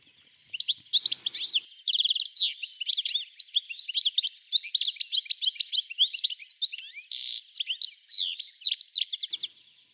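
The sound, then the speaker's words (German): A flock of finches chirps and twitters continuously. Many overlapping high-pitched calls form a busy, lively chatter with no pauses. “Im Winter können sie auch in gemischten Finkenschwärmen unterwegs sein.”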